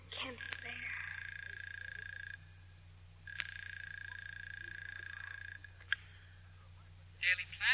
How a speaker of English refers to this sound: inserts a coin in the phone slot, dials a number.